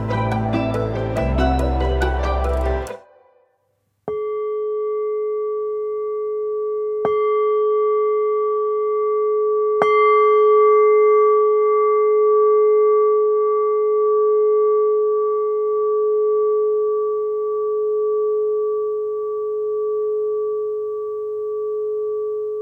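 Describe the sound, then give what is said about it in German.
A brief burst of music cuts off, then a gong opening a guided meditation is struck three times a few seconds apart, its steady, humming ring sustaining loudly for nearly twenty seconds without any talking. “Alles Weitere, was Sie machen müssen, erklärt Ihnen jetzt der Christian Fein nach dem Gong.”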